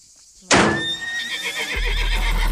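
A horse in a paddock at the bottom of Monoblé whinnies once, loud, a shrill wavering call that starts abruptly and trails off over a couple of seconds, with a low rumbling background underneath.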